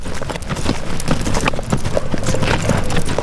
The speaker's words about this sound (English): And while those horses were nice and relaxed, on the other side of the ranch, other horses are hard at work training with their riders.